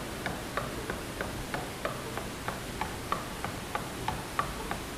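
A clock ticks steadily, about three clicks per second, each tick a short crisp snap over a low background hum, with no voices.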